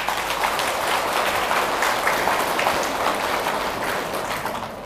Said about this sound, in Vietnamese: nếu quý vị thấy rằng là cái việc nhạy cảm bản thân không tốt, mặc cảm tự ti là không tốt, ganh ghét là trở ngại, đố kỵ là nên tránh, mặc cảm tiêu cực là gần vượt qua, để khép lại cái bệnh tự ái chấp ngã, thì hãy dâng cho một tràng vỗ tay để cam kết.